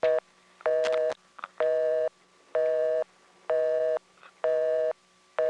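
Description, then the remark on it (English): A telephone busy signal after a switchhook flash made after dialing the digit 2: steady electronic tone bursts switching on and off in an even rhythm, about six pulses, loud, with faint clicks between them and no talking. “If you flash at any other time, you go to busy signal, and I'm going to demonstrate this.”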